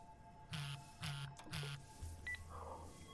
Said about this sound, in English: Madeline, your phone is going off. Glance at it and you can see that it is Khan.